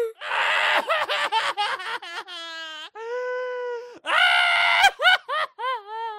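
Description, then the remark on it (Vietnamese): Loud, high-pitched wailing cries, with a burst of rapid sobbing yelps followed by long, drawn-out wails and a few shorter choked sobs at the end. “Khóc thật to.”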